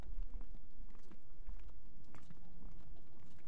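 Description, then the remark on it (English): Footsteps thud hollowly across a wooden bridge, a steady run of knocking steps over a low rumbling background, with no one talking. “So this is a wooden bridge over the”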